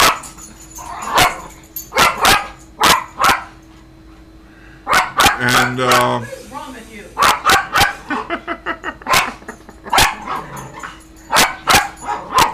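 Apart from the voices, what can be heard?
dog barking repeatedly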